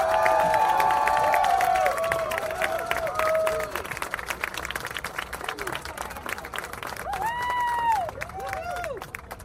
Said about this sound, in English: So join us in a rousing applause for Naomi Klein.